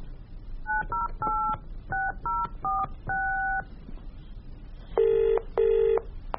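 telephone dialing and ringing

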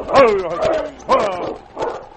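dogs barking

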